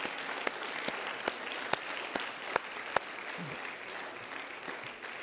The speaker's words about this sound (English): Can we give him a hand clap this morning?